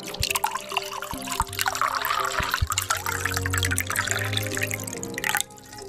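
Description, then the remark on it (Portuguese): Wine, a Chateau Lafite 1828, pours into glasses for a toast, a steady gurgling trickle with small splashing drips that runs for several seconds before stopping abruptly near the end. “Ah, mas olha só o que temos aqui. Um Chateau Lafite 1828.”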